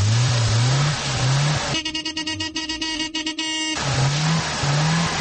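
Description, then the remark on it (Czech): The small engine of the last Yugo car to leave the production line revs up in repeated surges, then settles into a steady buzzing idle before revving again, fairly loud with no one talking, as a few workers who finished it see it off. “Za razliku od glamuroznog i radnostnog starta proizvodnje, ispraćaj posljednjeg Juga sa proizvodnih traka obavljen je u kamernoj atmosferi uz prisustvo nekolicine radnika koji su obavili završne radove na njemu.”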